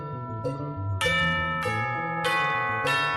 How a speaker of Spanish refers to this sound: tenemos las campanas ahí, ¿podemos escucharlas otra vez? Es que me encanta el sonido de las campanas tubulares. Si lo tenemos a mano, lo escuchamos de nuevo.